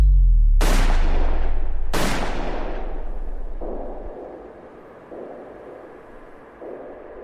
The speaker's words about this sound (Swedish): Klockan är 23:21 när gärningsmannen kommer fram bakom makarna Palme och skjuter två skott på nära håll. Det första träffar Olof Palme i ryggen, det andra snuddar vid Lisbeth Palmes rygg.